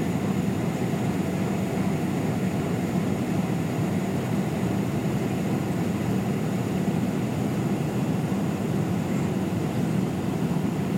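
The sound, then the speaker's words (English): Airliner engines on final approach, throttled down a little more, make a steady, loud, low roar with a faint high whine above it, unchanging for the whole stretch, with no voices, as the aircraft passes through low-level cloud. “Yeah, definitely final approach. How do you know? Because the engines have gone down a little bit more.”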